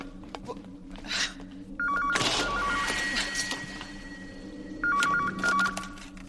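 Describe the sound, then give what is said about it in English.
A telephone rings aboard Doctor Who's large time-traveling spaceship, a phone box, in two trilling bursts a few seconds apart, heard over a steady mechanical hum and some clattering background noise. No one speaks. “In this clip, Karen Gillan's character, Amy, is stepping onto Doctor Who's large time-traveling spaceship as the phone rings.”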